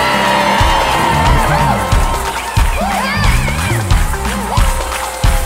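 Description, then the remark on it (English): A church audience erupts in loud, sustained shouting and cheering unto God, voices overlapping in a dense roar with rising whoops and yells, punctuated by bursts of heavier low rumble. “That's why it said, and shout unto God with a voice of triumph. Somebody shout.”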